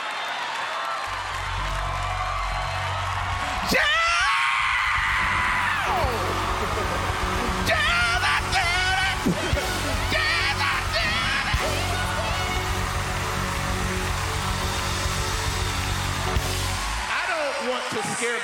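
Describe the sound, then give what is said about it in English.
A woman yells loudly and exuberantly in a long, sustained outburst of praise to Jesus, her shouts rising and falling over a noisy, cheering crowd. “By yelling, but you can't say Jesus did it with a soft tone.”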